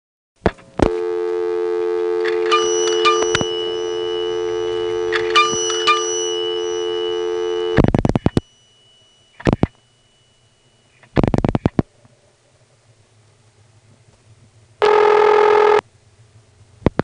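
Dimes drop into a payphone in North Carolina, each setting off a quick double ding of an actual mechanical bell inside the phone, twice over a steady dial tone, followed by handset clicks and a brief tone burst.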